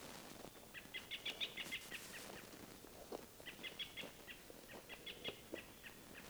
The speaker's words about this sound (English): robins are calling, giving like alarm calls all through the woods.